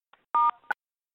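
Two short electronic telephone keypad beeps as star and 9 are pressed, a brief steady dual tone followed quickly by a shorter second one, clear with no voices.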